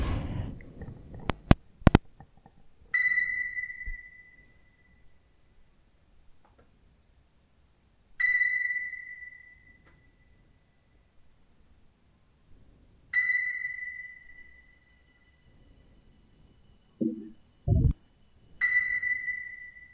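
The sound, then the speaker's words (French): A single very high piano note, played through a reverb unit and an echo chamber at the opening of a piece, rings out four times, roughly every five seconds, each strike a sonar-like ping with a long, fading tail; a few low thumps appear. “Et oui, ce son extrêmement étrange, c'est un piano. Un piano qui est branché dans une réverb et une chambre à écho.”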